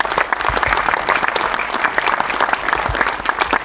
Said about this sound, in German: Im Astor Filmtheater gab es am Donnerstag kräftig Applaus, als der Präsident der IHK Braunschweig… die Verleihung des Sozialtransferpreis 2025 mit einer Rede eröffnete.